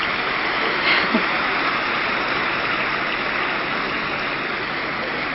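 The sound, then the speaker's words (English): A large crowd applauding for the Madhuban Nivasis who serve visitors to Madhuban, a dense, steady wash of many hands clapping that holds at an even loudness for several seconds without any clear voices. “And everyone claps for the Madhuban Nivasis who serve tirelessly when anybody comes to Madhuban.”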